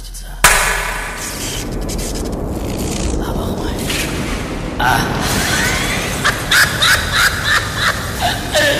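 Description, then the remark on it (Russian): A single sharp hand clap rings out early, followed by a dense, sustained roaring wash of noise with a series of short, rhythmic bursts toward the end. “Я сейчас хлопну в ладоши, и пусть атомный реактор воображения наших зрителей запустится.”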